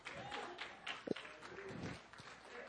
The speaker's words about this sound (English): You'd clap louder if you saved $3,000. I promise you.